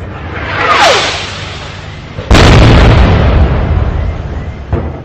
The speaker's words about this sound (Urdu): Rocket حملے سے نماز تو نہیں رکی، لیکن افغانستان کی جنتا کو یہ ضرور پتا چل گیا کہ جھڑپیں عید جیسے دنوں میں بھی جاری رہنے والی ہیں.